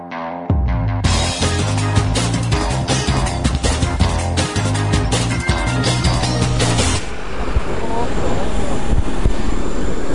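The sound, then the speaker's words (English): A loud, steady roar of airplane engines on a sunny airport apron as passengers walk out to board a plane bound for Holland. For the first several seconds, music plays over it, then the engine noise continues alone. “I'm outside in the sun, walking towards the plane that is going to take me to Holland.”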